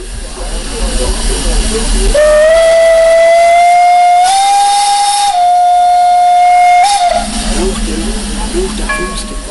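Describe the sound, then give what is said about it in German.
A steam locomotive, departing toward the Furka Pass summit, lets out one long, loud whistle blast lasting about five seconds, its pitch stepping up slightly midway, over a steady rush of hissing steam. “Nervosität und Begeisterung ist heute Vormittag förmlich in der Luft gelegen, wo die Dampflok endlich abgefahren ist Richtung Furka-Passhöhe.”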